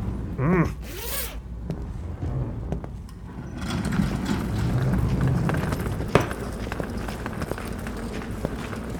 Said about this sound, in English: Left the heat running in the car out front, but you'll still probably want to zip that coat up. It's miserable out here today.